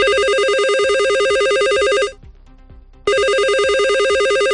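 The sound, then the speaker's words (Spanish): Telephones at a health centre in Mérida ring loudly and insistently, unanswered, as a resident calls to get an appointment: a warbling electronic trill that sounds for about two seconds, pauses briefly, then starts again, with no voices. “Teléfonos que no paran de sonar sin que se cojan.”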